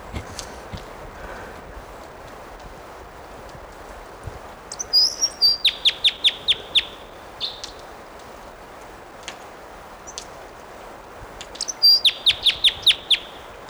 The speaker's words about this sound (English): Here's that bird.